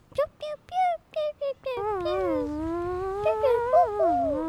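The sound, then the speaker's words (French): A clarinet plays a jazzy phrase: a few short, bouncy staccato notes, then a long sliding, wavering line that bends up and down, fairly loud with no one talking. “Et voici le renard avec sa clarinette.”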